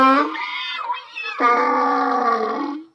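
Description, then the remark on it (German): A donkey brays loudly: a shorter, higher-pitched harmonic call, a brief break, then a longer, lower, rasping note that holds steady before cutting off. No one speaks. “Ein Esel.”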